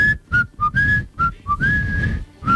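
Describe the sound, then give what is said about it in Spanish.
A person whistles the Peronist march, imitating a parrot, a short, bright melody with quick choppy notes and a longer held tone, fairly loud, with no talking. “Y cuando yo era chiquito, antes del 76, el loro silbaba la marcha peronista.”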